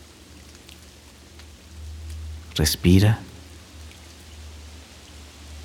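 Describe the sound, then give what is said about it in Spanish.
Steady rain falls throughout, a soft continuous patter with a low rumbling undertone, briefly interrupted midway by a short spoken word. “Y ahora, pon atención en el sonido de la lluvia.”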